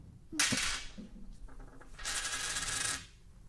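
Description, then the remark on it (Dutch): A coin flipped to decide between two people lands with a sharp metallic clink, recorded with a microphone held near it, then rattles and rings as it spins and settles on a hard surface. No one speaks. “ik draai hem wel even voor de... Oh ja, voor ja. Het geluid. Even de microfoon erbij.”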